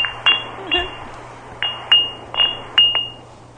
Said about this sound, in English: You like wind chimes? No.